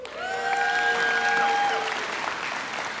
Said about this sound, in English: So, guys, you guys are so proactive in clapping. That's really cool.